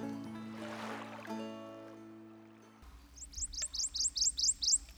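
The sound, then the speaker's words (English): A bird trills in a quick, rhythmic run of about nine bright rising chirps, loud, following a few seconds of a steady low droning tone. “Deep in the swamp, in a hollow cypress knee, lived a mother flame bird and her little chicks, three. "Sweet, sweet," trilled the mother.”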